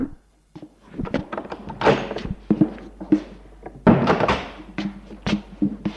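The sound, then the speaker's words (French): A door is pushed shut with a dull thud, surrounded by several other knocks, bumps and rattling handling noises spread across the few seconds, with no one talking. “Xavier sonne, c'est le docteur qui lui ouvre. Bonjour monsieur. Il le fait rentrer dans son bureau.”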